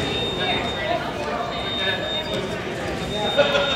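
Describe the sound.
A thin, high-pitched warning beep sounds in steady pulses in the Port of Oakland airport terminal, signalling that a baggage carousel is starting. It plays over a busy, echoing terminal hall with indistinct voices and low rumbling in the background.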